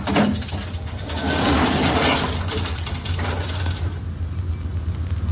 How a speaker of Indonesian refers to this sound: Naik dan akhirnya lift berhenti. Berhenti di lantai teratas gedung baru, yaitu lantai 17. Pintu lift pun terbuka.